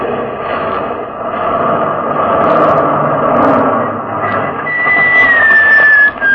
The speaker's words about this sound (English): I gave the sergeant the order to swerve the truck across the road, blocking it.